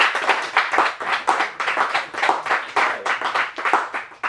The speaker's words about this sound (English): Another round of applause for Nate Hawk's team.